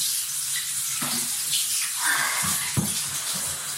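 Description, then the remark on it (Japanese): A detachable handheld shower sprays running water in a steady hiss, aimed at the clitoris, with a few low splashes and knocks breaking through near the end. “それじゃあ次はクリトリスにシャワーを当てたいと思います。”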